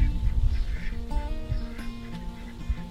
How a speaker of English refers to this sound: All my ducks are back there quacking over something. I'm not sure what.